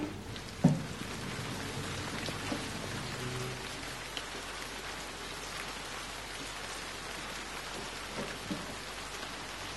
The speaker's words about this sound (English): Rain brings out the contours of what's around you, in that it introduces a continuous blanket of differentiated and specialized sound, uninterrupted, which fills the whole of the audible environment.